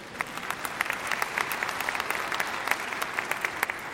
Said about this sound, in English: And those of you who didn't clap, when we get to heaven, I want you to come up to me and say, Pastor, you were right.